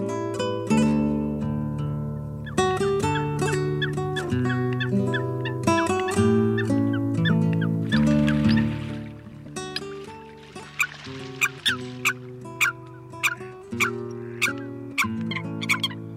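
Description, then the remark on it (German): Eurasian coot calls: harsh, nasal honking notes, with sustained tones early on, then a run of short, sharp, explosive calls repeated at uneven intervals, fairly loud, with no talking. “Das war das Blässhuhn.”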